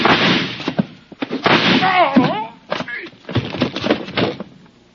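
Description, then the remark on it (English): Several sharp gunshots crack in quick, irregular succession in a dark room, loud, with a man's voice shouting between the blasts. “Across the room, sitting on the floor, was Carson staring stupidly down at the red bullet hole in his side”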